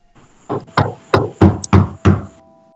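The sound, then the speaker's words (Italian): Six firm knocks on a wooden door because the doorbell is broken, loud, in a slightly uneven rhythm over about two seconds, with a faint steady tone humming in the background and no one speaking. “Il campanello è guasto. Si prega di bussare.”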